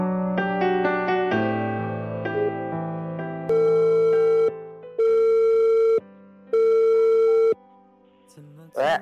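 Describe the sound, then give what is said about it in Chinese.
A telephone ringback tone as a call from the DNF official radio program connects: a quick run of dialing beeps, then three long, steady electronic tones with short gaps, loud, with no one talking. “那接下来我们今天的第二份电话祝福，我们一起来接通一下，看看有没有人接电话呢？”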